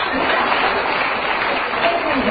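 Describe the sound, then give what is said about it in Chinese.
An audience claps steadily, a dense, even crackle of many hands that holds at a constant loudness for about two seconds, with no voices standing out. “菩萨不来了呀，不准啊，鼓掌。”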